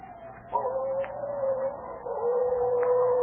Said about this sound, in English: Yeah, them slinking coyotes sound like banshees away in the night. Like as not, it's a scalp hunting Sioux, which is worse.